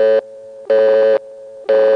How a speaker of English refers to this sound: It's been doing that through this whole program. Sometimes the dial tone just sounds a little bit discordant.